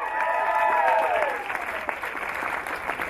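A crowd cheers and applauds steadily, dense clapping mixed with high whoops and shouts that are loudest in the first second and a half, then settle into continuous clapping.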